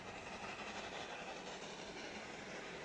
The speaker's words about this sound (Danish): Toget rasler stille.